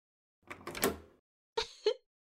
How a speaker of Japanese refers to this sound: 会議室に鍵かけちゃった。鍵は私が持ってるから、これでこの部屋には誰も入ってこれないわ。